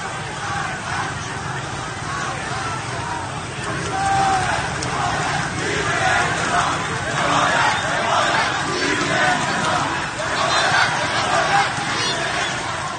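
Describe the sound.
A large crowd of protesters chants slogans at a Friday street protest in Rasht, Iran, a dense, continuous roar of many voices, swelling louder after the first few seconds and staying intense, with rhythmic surges of collective yelling throughout.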